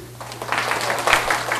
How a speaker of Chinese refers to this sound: 我们拍手谢谢她。